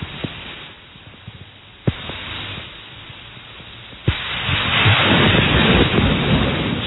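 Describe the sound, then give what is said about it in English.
A close thunderclap from a nearby lightning strike hits with a sudden sharp crack, then swells into a loud, sustained rolling rumble over a steady wash of wind and rain noise, heard outdoors in the rain. “Oh, there's lightning. Oh, let's listen. Yeah, close.”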